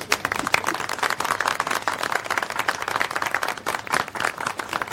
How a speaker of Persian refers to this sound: ماچ به مغزت، تشویق کنید.